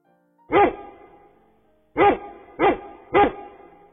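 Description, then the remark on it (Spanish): A dog barks four times: a single bark, a short pause, then three quick barks in a steady row. No one is talking. “Contestó el perro.”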